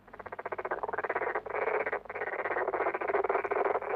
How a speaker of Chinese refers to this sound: 青蛙们在池塘里唱歌